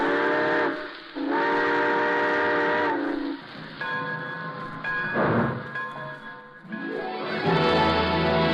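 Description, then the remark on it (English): A steam train whistle sounds two loud, sustained blasts, followed by hissing, chugging and further wavering whistle tones as the train starts to pull away. “All aboard! Folks, it looks as though we're ready to pull out.”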